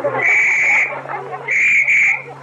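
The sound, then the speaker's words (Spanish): A shrill whistle is blown loudly by a school headmistress at a school: one long blast, a short pause, then two quick blasts in succession, over a low steady hum and faint background noise. “Mire, tío, esa que está ahí con el silbato es la directora”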